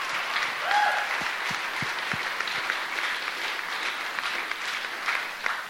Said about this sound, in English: And all commissioners have voted yes, and they will be asking the city manager to begin research on banning Type 3 short-term rentals. Yeah, let's have a round of applause for that.